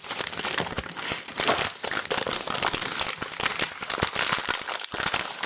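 Lemons are handled right up against the microphone, making steady, loud crinkling and crackling rustles with sharp irregular snaps throughout, and no voices.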